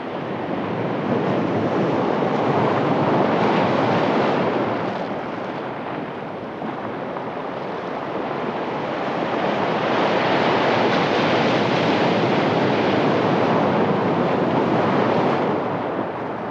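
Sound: gentle ocean waves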